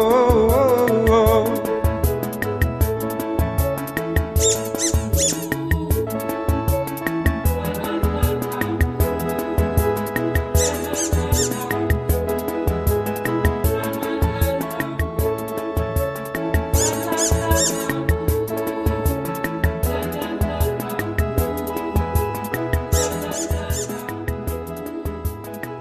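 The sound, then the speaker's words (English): A squeaky toy squeaks again and again in a bouncy rhythm, woven into a loud, upbeat musical track with a steady beat and bright bursts every few seconds. “Squeaky deaky, I love that squeaky sound.”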